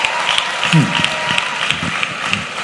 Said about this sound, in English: So let's give the Lord another round of applause for all of them.